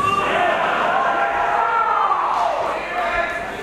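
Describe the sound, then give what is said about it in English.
An audience claps and calls out together in a loud, steady burst of crowd noise that holds for a few seconds, with raised voices mixed into the applause. “Y'all didn't clap properly for that.”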